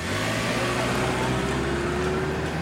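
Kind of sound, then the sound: vehicle, car driving away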